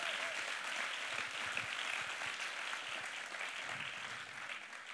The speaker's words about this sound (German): Hey, lass uns der Band einen riesen Applaus geben. Mega cool.